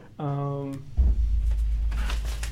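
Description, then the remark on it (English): Paper handling: a low thump as it is grabbed, then crinkly rustling that grows brighter toward the end. A short hummed vocal sound comes just before. “Sorry about that. I was just picking up the paper here.”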